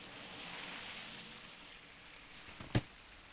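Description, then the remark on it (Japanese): Steady rain hisses in a broad, even wash, with one sharp, louder tap near the end like a drop striking something. No voices are heard. “ほら、もっと寄らないと。 雨に濡れちゃうよ。”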